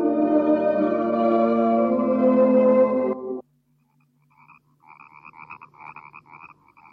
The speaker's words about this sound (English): Must be millions of them in those marshes. The frogs.